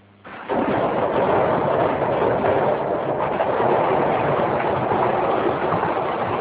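The closed metal roll-up shutter of the now-defunct Green Sauna, on the fifth floor of a multi-tenant building, is pulled open with a steady, dull rumbling clatter that starts abruptly after a brief quiet moment and continues loudly for several seconds.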